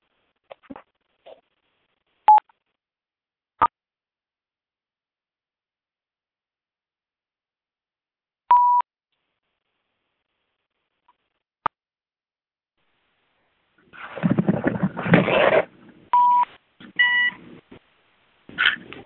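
Scattered short electronic telephone keypad beeps and clicks sound alone in quiet at first, a few seconds apart, as a phone is unmuted for questions at the end of a class, then a burst of noisy rustling and handling sounds mixed with more beeps near the end.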